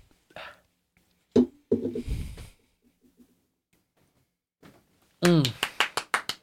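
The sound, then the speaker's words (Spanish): Voices talk, then near the end a short round of brisk hand clapping breaks out, about seven or eight sharp claps in quick rhythm with a laugh at its start, applauding a guest on the show Gordas de Envidia. “¡Un aplauso, gordos!”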